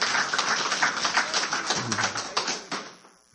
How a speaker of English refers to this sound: We applauded everybody else. I suppose we ought to applaud her for her participation this morning.